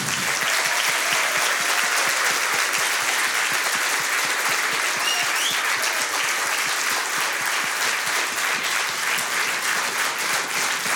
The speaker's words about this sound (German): Und ein Riesenapplaus